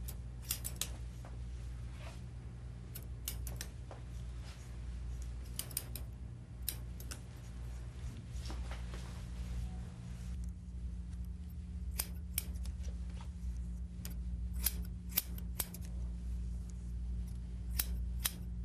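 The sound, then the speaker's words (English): Scissors snip through hair held between the fingers in quick, irregular bursts of crisp clicks, some clustered and some spaced apart, over a steady low hum. No one speaks. “And get a hair with the fingers like this and we cut it.”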